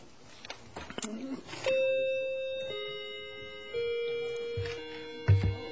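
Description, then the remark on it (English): A doorbell chime rings out clearly during a sermon on 1 Corinthians, a series of sustained electronic tones stepping down in pitch and lingering, with brief murmurs and shuffling before and after. “There's a doorbell back here.”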